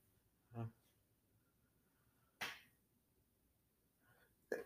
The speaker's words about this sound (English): Ooh, had a hold of the sneeze. Ugh.